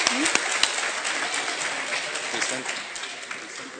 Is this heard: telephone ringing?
no